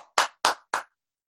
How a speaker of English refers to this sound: Clapping hands on Thursday.